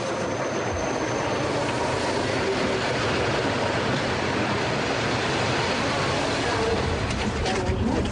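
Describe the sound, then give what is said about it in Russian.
An electric commuter train pulls into a railway station platform where people are standing, a loud, steady rumble and hiss filling the whole stretch, with indistinct voices murmuring faintly underneath. “Платформа железнодорожной станции. Стоят люди, подходит электричка.”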